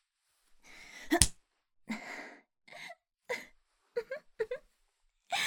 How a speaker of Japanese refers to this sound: 本当にいい声で泣いてくれる。久しぶりかも。こんな声聞けるの。